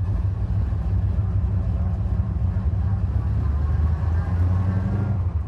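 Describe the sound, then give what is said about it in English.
Race car engines rumble loudly and continuously as drivers start them with clutch in and switch up, a deep, steady low drone that holds the same level throughout without pausing. “Clutch is in. Switch is up. Drivers, start your engines.”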